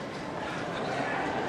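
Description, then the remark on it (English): A train at a station platform: a steady, fairly loud rumble and hiss with a busy, dense texture, and indistinct voices blended into the noise. “Don't let him get on the train!”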